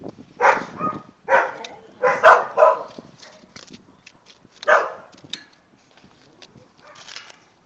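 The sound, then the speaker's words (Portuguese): Dogs at houses bark in a scattered series of loud, sharp yelps, several in the first few seconds, then one more bark and a few fainter barks trailing off. “Tem muito cachorro aqui, gente, nas casas, mas eu vou comer.”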